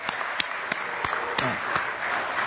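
An audience breaks into applause, with sharp, evenly spaced claps keeping a steady beat over a dense wash of scattered hand clapping. There are no voices, just moderately loud, continuous clapping throughout.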